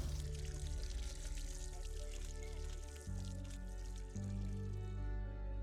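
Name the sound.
water gushing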